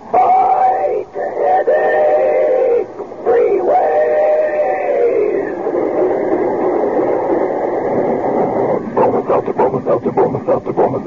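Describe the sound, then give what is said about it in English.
A loud talking-train sound effect: a train whistle, its tones bent and shaped like syllables of speech, sounds continuously, then gives way to rapid rhythmic chuffing of a locomotive near the end. “When it's a common sick headache that has you feeling miserable, let our talking train tell you how to lick it.”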